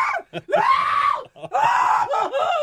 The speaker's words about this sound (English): He started crying like a little schoolgirl. Too early for that type of screaming.